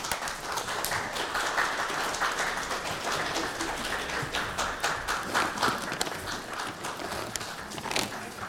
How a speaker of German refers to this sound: Und dann, wenn wir vielleicht ganz leise und liebevoll gleich mal klatschen, dann traut sich das Wesen vielleicht mal gleich mal nach vorne. Wollt ihr mal klatschen? Ganz liebevoll. Macht das mal.